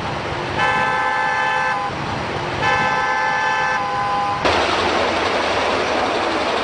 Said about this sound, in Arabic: هذا مشهد مألوف لدى اللبنانيين، تنفرد زحمة السير بكونها قاسما مشتركا عابرا للحدود السياسية والمناطقية.